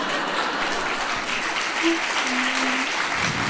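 An audience claps steadily throughout, a dense, even wash of applause at a constant level, with a couple of faint tonal whistles or hums rising briefly above it.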